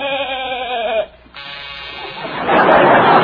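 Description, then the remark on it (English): A new door buzzer sounds with a wavering, bleat-like tone, breaks off briefly, then returns as a louder, raspy electric buzz that holds steady until the end. “That's a new door buzzer, Doc.”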